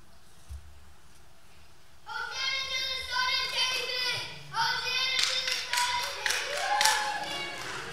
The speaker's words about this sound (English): Clap your hands and wave your arms.